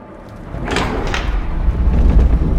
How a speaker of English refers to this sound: What's happening? I think those tiles triggered an ancient trap door.